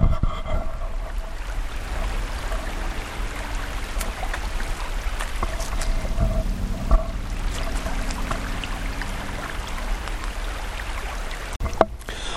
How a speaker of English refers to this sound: Now I'm going to finish this off by actually doing a soundscape of the actual water. I'm going to point the shotgun microphone at the creek so you can possibly hear it, and then I'll switch off.